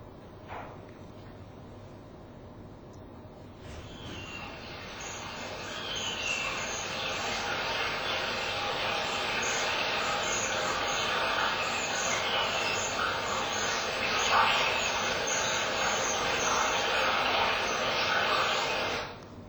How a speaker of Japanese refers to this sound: ズラズラという川の音に混じって、チーチーという高い声が入っていると思います。これがキレンジャクという鳥の、鳴き声です。